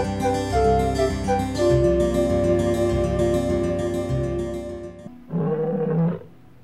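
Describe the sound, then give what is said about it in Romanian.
A lion roars loudly, one long rumbling roar lasting several seconds, then a short pause and a second, briefer growling roar. No one speaks. “Este un animal foarte periculos.”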